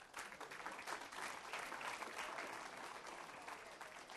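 A roomful of people clapping steadily, a dense crackling wash of many hands that holds at an even loudness for several seconds with no voices over it.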